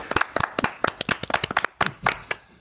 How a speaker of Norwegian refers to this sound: Stående applaus